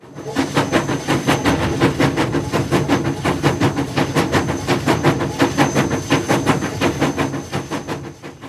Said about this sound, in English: The train begins to move.